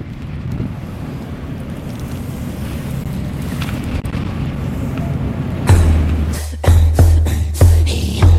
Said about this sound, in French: On est derrière une porte d'un bateau et on entend le vent et on voit les mouettes. Ouais, bon. Mais il y a beaucoup de vent, hein.